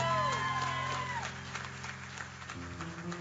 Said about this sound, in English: So would you guys help me give her a round of applause for serving so many years? Yes, stand up. There we go.